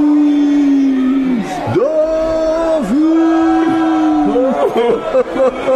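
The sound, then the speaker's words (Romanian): A loud, sustained chorus of roaring voices, with long drawn-out yells that swoop down and rise again over a constant wall of crowd noise. “Ei mi se pare că l-au găsit pe al lor. Noi auzi cum urlă.”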